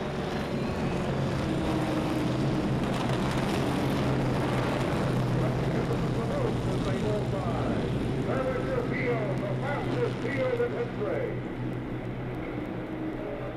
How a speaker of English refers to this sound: Moving out of the number four turn and onto the straightaway. The pace car bringing them down the straightaway. Now this the parade lap.